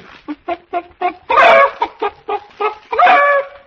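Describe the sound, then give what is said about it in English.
A hen cackles loudly: a run of quick, evenly spaced clucks builds into a long, squawking cackle, then the pattern repeats with another burst at the end. “I'm a cackle that means we'll have scrambled eggs soon.”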